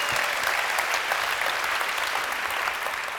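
Steady applause from an audience for the woman translating a French-English talk, a dense wash of many hands clapping at an even level for a few seconds with no voices standing out.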